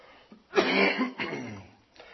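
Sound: coughing and throat clearing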